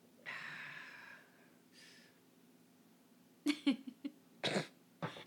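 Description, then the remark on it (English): A breathy rasp, then a run of sharp coughs in short clustered bursts, with a final cough trailing off at the end; no talking. “I'm not coughing anymore.”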